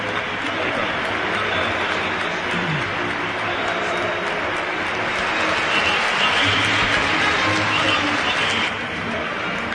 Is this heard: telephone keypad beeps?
no